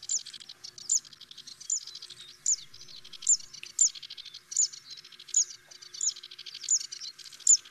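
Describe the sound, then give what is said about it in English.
A Zitting Cisticola, a small warbler, sings a steady series of sharp, high 'zit' notes, about two per second, repeated a dozen times over a faint, hissy background with no voices. “The Zitting Sisticola is another widely distributed bird across Southern Europe, Africa, Southern Asia, and Northern Australia.”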